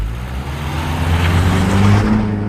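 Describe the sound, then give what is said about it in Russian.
A car engine hums steadily, its low drone rising in pitch as the vehicle speeds up, with road and wind noise rushing underneath. No one speaks. “Ах, я люблю кататься на машинах! Кажется, что не мы сами движемся, а все вокруг нас.”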